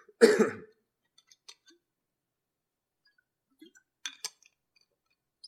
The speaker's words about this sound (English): A sip of water.